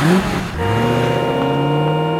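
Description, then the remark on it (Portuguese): A loud car engine on a city street hums and climbs in pitch, then holds a steady droning tone, with a background wash of street traffic and no voices. “Muito carro nas ruas é sinal de muito gás carbônico, que não faz bem à saúde.”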